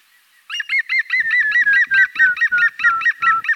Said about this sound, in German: Und der Grünspecht hat so einen Verwandten. Also wenn der hier lacht, dann macht der Grauspecht sowas wie...